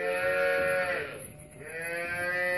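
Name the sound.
cattle mooing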